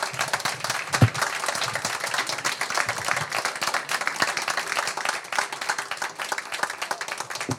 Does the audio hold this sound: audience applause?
yes